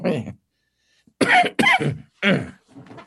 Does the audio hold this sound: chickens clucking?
no